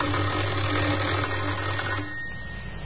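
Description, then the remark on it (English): A doorbell of a house in Oxford, pressed by a man at the top of a few front steps, rings in one continuous, rattling electric burst for about two seconds, then cuts off, leaving only a faint hiss. “He had a worried expression on his face as he walked up the few steps and pressed the doorbell.”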